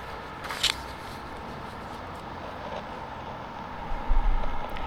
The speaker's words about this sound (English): I just like coming here, you know, it's just like it's kind of a nowhere place. It's just like cars going past. It's not that isolated, but you know, it kind of is.